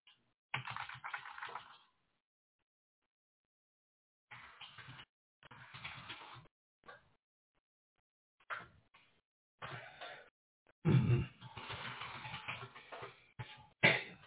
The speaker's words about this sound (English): Can't spell this damn thing right. Typing too fast.